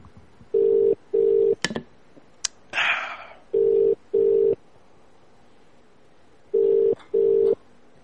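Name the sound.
telephone dialing and ringing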